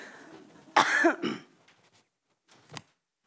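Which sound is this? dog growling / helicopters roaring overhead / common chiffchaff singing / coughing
coughing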